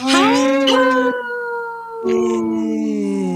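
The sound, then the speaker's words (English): A wolf howl sound effect, played by clicking a button, rings out loud, a long wavering cry that breaks off, pauses briefly, then resumes as a second sustained, gliding howl. “We're all clicking the howl. We're all clicking the wolf button.”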